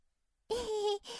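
A stomach growls after a moment of silence: a steady, tonal rumble of about half a second, then a brief pause and a shorter second gurgle. No talking.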